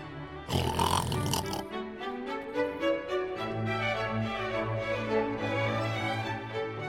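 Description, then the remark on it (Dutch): A voice imitates the wolf snoring very loudly in grandmother's bed in the Little Red Riding Hood (Roodkapje) story: a harsh, noisy rasp first, then a long, low, rumbling snore with a guttural, grunting quality that carries on steadily to the end. “Nu de wolf zijn honger gestild had, ging hij weer in het bed van grootmoeder liggen en begon heel hard te snurken.”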